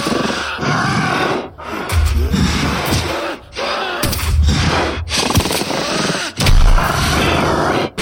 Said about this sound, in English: Blinding light suddenly flooded the room, and the roar of the werewolf echoed in the roar of gunshots.